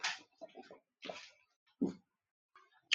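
Several short sips and swallows of water, coming in small wet bursts separated by brief pauses, with no talking.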